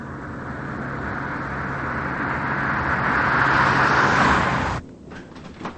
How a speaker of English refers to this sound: He steps outside and sees that her car is gone. Adrian drives back to her mansion.